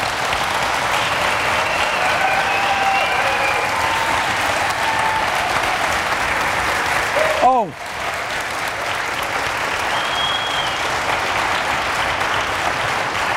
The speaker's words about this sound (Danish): Godt. Tusind tak, fordi I kom, og så skal der klappes.